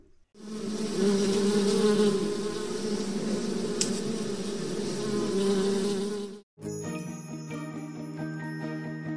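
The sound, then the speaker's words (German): A dense, steady buzzing of many bees at beehives outdoors fills the air for about six seconds, loud, before cutting off and giving way to a bright, tonal musical passage. “Jetzt, du bekommst gleich nicht mehr mit, wenn die beiden gestochen werden von den Bienen draußen.”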